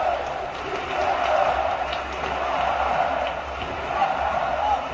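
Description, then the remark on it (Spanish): A large stadium crowd chants "sí se puede" in unison at half-time of a football match between Real Zaragoza and UD Las Palmas as the players leave the pitch, a dense, steady wall of voices holding at an even loudness throughout without any single clear speaker. “Ahí están, con los gritos del público de sí se puede, sí se puede, sí se puede. Escuchen, escuchen.”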